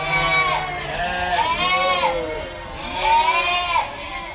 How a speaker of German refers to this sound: 150 Schafe und 195 Lämmer wuseln im Schafstall am Infohaus der Loki-Schmidt-Stiftung durcheinander und blöken aufgeregt